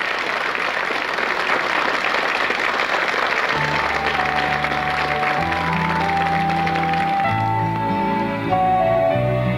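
An audience bursts into steady, dense applause, a broad clapping roar that keeps going as sustained instrumental chords come in partway through and gradually take over.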